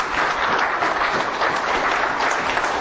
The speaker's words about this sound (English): Give the Lord a hand of applause in his house.